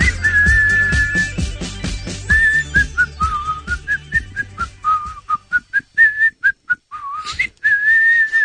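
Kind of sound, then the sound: human body sound, person whistling a tune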